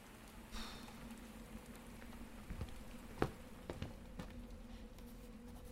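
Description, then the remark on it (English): Soft, steady rain patters on a roof, a faint continuous hiss broken by a few scattered louder drips, with a low hum underneath and no voices. “The sound of rain on the roof nearly put me to sleep.”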